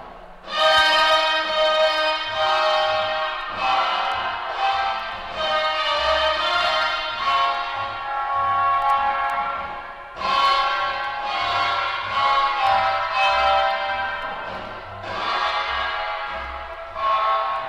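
An orchestra plays loud, sustained chords drenched in heavy echo added by an engineer using echo chambers, each swell smearing into the next in a washy, cavernous blur, with low bass notes underneath and no voices.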